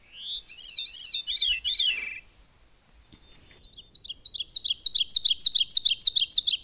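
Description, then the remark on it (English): A veery, a small, secretive, robin-shaped thrush with a rusty back and delicately speckled upper breast, sings a breathy, spiraling phrase that swirls downward, then after a short pause a loud, rapidly repeated bird call builds in a steady rhythm, both clear. “This is the veery, a small secretive thrush shaped like a robin with a rusty back and very delicate speckling on the upper breast.”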